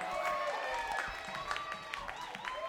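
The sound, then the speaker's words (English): An audience claps steadily for a band's horn players, a dense patter of hands filling the whole stretch, with whoops and voices rising over the applause. “How about we give a nice round of applause to the horns one more time.”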